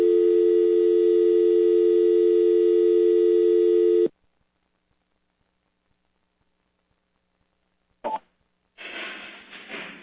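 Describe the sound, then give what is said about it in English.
A loud, steady telephone dial tone on a call-in show's caller line, heard while connecting a caller from Ohio, hums for about four seconds and cuts off abruptly, followed by silence, a brief click, and then a rush of noisy line hiss. “Oh, we got a dial code here.”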